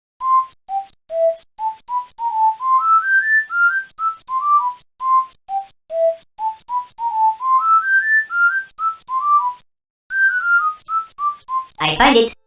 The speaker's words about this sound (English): There was even the idea to have him whistle the World 1-1 theme from Super Mario Bros.